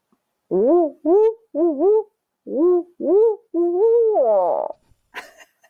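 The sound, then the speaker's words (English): A person imitates an owl with a series of six warbling, voiced hoots in quick succession, rising and falling in pitch, the last one drawn out and breaking off, followed by a brief breathy sound. “That sounded just like a bird call. I did. And our first ever bird owl.”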